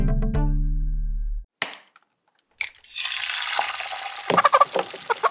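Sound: egg frying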